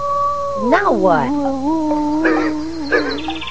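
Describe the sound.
A sick dog whimpers and lets out a wavering, rising-and-falling howl, with a brief spoken line slipping in between the cries.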